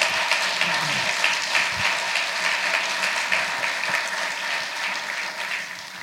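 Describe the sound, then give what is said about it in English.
Steady applause from a crowd thanking Brooks and Tim for their ministry, a dense crackle of many hands clapping at a constant level for several seconds with no voices on top. “So let's just thank Brooks and Tim again for their ministry.”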